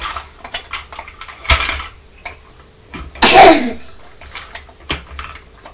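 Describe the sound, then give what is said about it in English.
A single sharp, loud sneeze bursts out, preceded by a quick intake and followed by faint clattering household sounds. “Bless you.”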